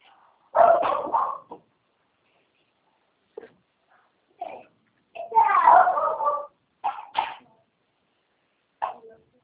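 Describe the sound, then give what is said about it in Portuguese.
A neighbour's dog barks in irregular bursts, some single yaps and some quick clusters of barks, with short silent gaps between them; the barking is moderately loud. “Filha, cachorro do vizinho.”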